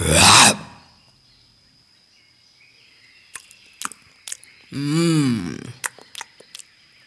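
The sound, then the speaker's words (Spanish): A jaguar's devouring bite: a sharp, noisy snap opens, then crunching clicks and a short, throaty growl rising and falling, fairly loud. No one speaks. “Cuentan que es por eso que el zaraguato vive arriba de los árboles, porque sabe que si baja de ellos, el vengativo jaguar se lo devora de un mordisco.”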